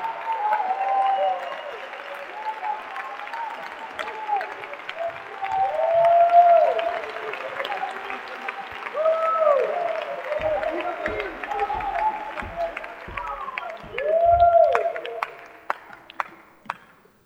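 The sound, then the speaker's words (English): A crowd applauds steadily with clapping and loud cheers and shouts rising over it, swelling and fading in waves before tapering off into a few scattered final claps. “You need to clap like you're trying to change something.”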